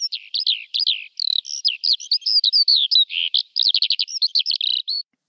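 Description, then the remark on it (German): A small bird, of a kind that can sing, breathe and fly at the same time and keep singing for minutes, sings a rapid, continuous warbling song of high chirps, trills and quick notes, lively and unbroken for about five seconds with no voices present. “Sie kann gleichzeitig singen, atmen und fliegen.”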